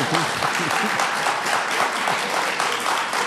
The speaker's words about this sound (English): I'll just tell you, I'm a Democrat, and you can clap for that if you want.